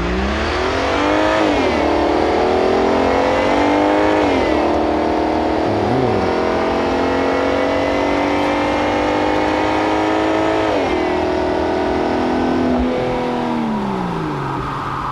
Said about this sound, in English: How good's a downshift? Oh, love it. How good was that, the Audi RS4 that did that?